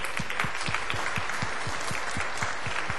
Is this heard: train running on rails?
no